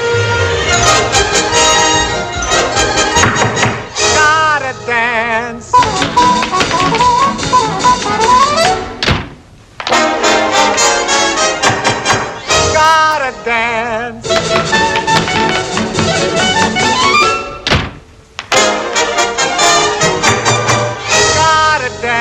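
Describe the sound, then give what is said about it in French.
A brassy, upbeat orchestral show tune from a movie musical's film-within-a-film dance number about a young man who arrives on Broadway, knocks on every door and says he wants to dance; loud and full, with two brief breaks before the band surges back in; light tapping rhythms seem to run beneath it. “C'est donc l'occasion d'entendre un extrait plutôt connu aussi du jeune gars qui arrive à Broadway, frappe à toutes les portes et répète qu'il veut danser.”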